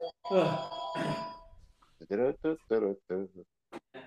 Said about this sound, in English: Oh, my phone is ringing. Sorry, wait 1 second.